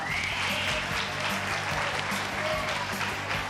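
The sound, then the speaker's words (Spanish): An audience of students at Colegio Jaime Balmes claps steadily for a few seconds during a live broadcast of the radio program Despierta UMH, a dense, even patter of many hands at a fairly loud level, with a faint murmur of voices mixed in. “¡Un aplauso!”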